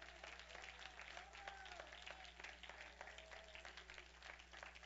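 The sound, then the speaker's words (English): A church audience applauds steadily as people walk down to the front to pray, a dense wash of many hands clapping together at moderate volume, with a low hum and faint voices mixed into the background. “Would you give them a hand clap as they come, church?”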